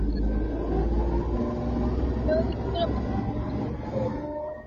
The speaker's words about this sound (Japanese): なんか今 F1 カー走った。